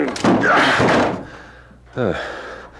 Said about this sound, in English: Is this the apartment? Yes. Oh, all is quiet. Too quiet. The door is locked. Break it in. All right.